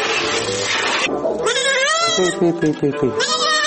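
Two young goats bleat loudly, a few drawn-out wavering calls followed by a quick stuttering bleat, one after another with barely a pause.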